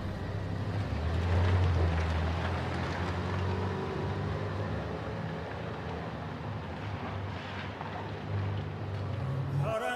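A car drives slowly out of a parking garage. Its engine hums with a steady low rumble throughout, fairly loud, a constant mechanical drone with no voices.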